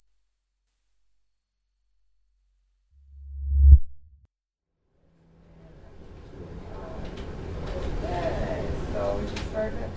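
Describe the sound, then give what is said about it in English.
A thin, steady high-pitched tinnitus-like ringing holds for about five seconds over a low rumble, then a deep thump cuts in and a wash of muffled noise with voices takes over. “On bad nights, I dwell within this misfunction of my brain, honing in and in and in on the ringing until that is all there is.”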